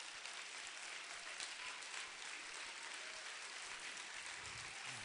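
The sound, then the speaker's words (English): A church audience claps their hands with all their might, energetically, a dense, steady wash of many hands striking together without letup for the whole stretch, loud and even with no distinct voices. “Now, before you seat it, oh my, if you're a guest of ours, do you see how energetically people are clapping their hands?”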